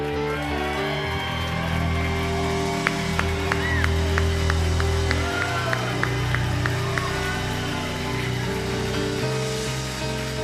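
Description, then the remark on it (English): An audience applauds steadily for about ten seconds to welcome a visiting prophet and his interpreter, a dense wash of clapping and crowd noise with a few sharper claps standing out, over a low sustained musical drone. “Al tamaño de tu aplauso será tu milagro.”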